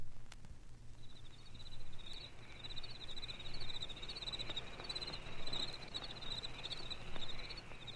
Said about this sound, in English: cicadas sing a buzzing requiem to the green and golden dying summer